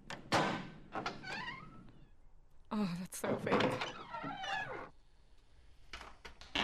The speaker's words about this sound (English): Okay, just so you know, first of all, that's the squeakiest door I've ever... It's an old vault.